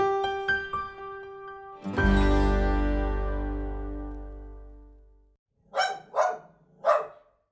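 A short musical sting ends on a long, ringing chord that fades out, followed by a dog barking three times in quick succession, loud.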